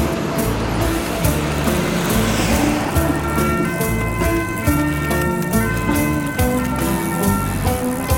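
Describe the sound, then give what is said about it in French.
Steady city road traffic rumbles as cyclists pass a truck parked on the bike lane and rejoin the traffic, with engines droning and vehicles passing continuously; a siren-like tone drifts faintly in the background. “Alors là, on se faufile, attention, un camion qui est garé sur la bande cyclable en deuxième. On se réinsère dans la circulation.”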